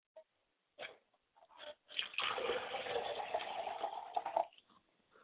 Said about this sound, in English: I like to pour a glass of water for my mother, and I say, Mother, quench your thirst and come and join us.